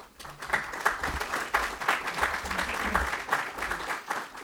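Sustained audience applause, many hands clapping in a dense, even wash that holds steady throughout without fading, with no voices over it.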